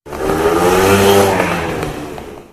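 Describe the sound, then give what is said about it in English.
A car engine roars loudly, its pitch climbing as it revs, then gradually fades as a woman drives the car away. “With the roar of the engine, she was gone.”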